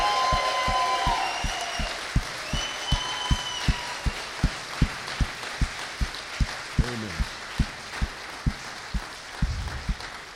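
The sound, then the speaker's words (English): An audience claps in steady unison, cheering on God after baptisms, a loud, even beat of about three claps per second, with high whoops and cheers ringing out over the start before fading as the clapping continues. “Let's cheer on God for a moment.”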